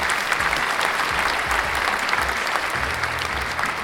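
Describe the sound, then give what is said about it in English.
A steady burst of applause from a crowd, played as a clicked sound effect, dense rapid clapping at an even loudness throughout, with no voices rising above it. “Oh, where's that applause? It's right here. Go ahead and click that.”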